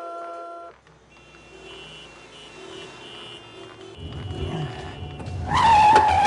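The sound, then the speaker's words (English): In the opening of a movie, a car engine rumbles and shifts as the vehicle moves back and forth, growing louder before a sharp tire squeal near the end; a short electronic tone sounds at the start. “I remember the trailer only because I think part of the trailer was the first part of the movie with the car going back and forth.”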